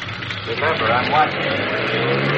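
A car engine hums steadily at a low, even pitch as the car is driven into the garage, swelling briefly as it moves along, then settling back into a constant droning run.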